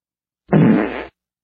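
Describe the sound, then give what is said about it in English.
A single fart sound effect played by an Alexa smart speaker, a loud, rumbling burst lasting just over half a second, standing alone with silence on either side. “you have to let it make bodily noises. So, fart.”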